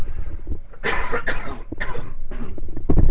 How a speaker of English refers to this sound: I'm just going to take the headset off and cough for a second.